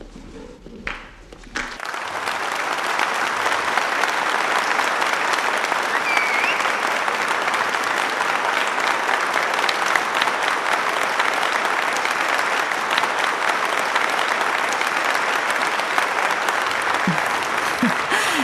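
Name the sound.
standing ovation applause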